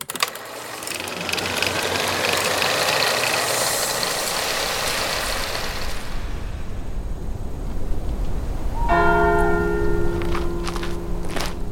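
A dense, whirring clatter of clockwork gears and ratcheting runs for several seconds, then a loud bell of the Bruderhauskirche church strikes once, its deep tone ringing on and sustaining.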